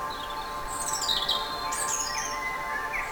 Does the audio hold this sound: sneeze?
no